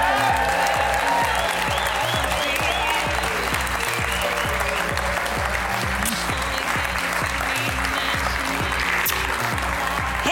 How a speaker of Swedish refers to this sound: Ge en varm applåd till …!